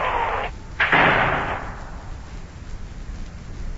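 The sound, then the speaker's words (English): A sharp crack of thunder bursts out during a heavy rainstorm with lightning flashing, quickly followed by a louder crash that rolls and fades into a low rumble, with steady rain hissing underneath. “Boy, that lightning sure is flashing outside.”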